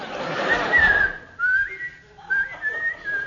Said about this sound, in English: Whistle, the whistle.